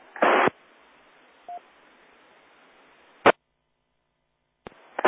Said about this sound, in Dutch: Dat laatste station met het hele zwakke signaal, kon jij de call daarvan goed horen?